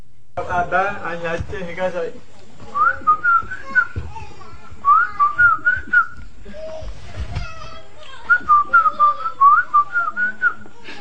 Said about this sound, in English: This is whistle speech that doesn't have consonants and vowels, and you can watch this for a little bit.